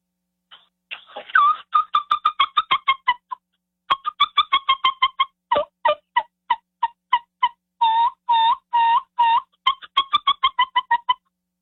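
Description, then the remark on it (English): Turkey peeps and purrs played on a brand new turkey call: quick runs of short, high, clucking notes in steady rhythm, broken by a few longer rolling tones, fairly loud with no talking. “You're telling me they don't hear the peeps and the purrs and stuff like that.”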